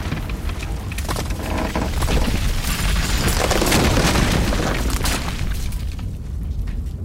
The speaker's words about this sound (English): Get to the sides! The roof is caving!